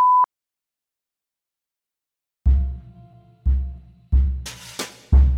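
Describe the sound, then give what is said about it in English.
A short, loud electronic beep tone, used to censor a racial slur, sounds once at the very start, followed by silence and then a series of heavy, booming low thuds. “If this were written only to appear on the page, I might let the slur stand in quotation marks, but as I do not wish to offend or disturb anyone with audio of the spoken word, I will be censoring the racial slur with a beep.”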